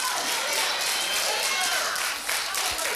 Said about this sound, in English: When I see you rising up, guess what I'm going to do? Send you an offering, and I'm going to clap my hands.